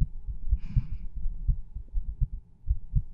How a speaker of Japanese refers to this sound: ドキドキしています。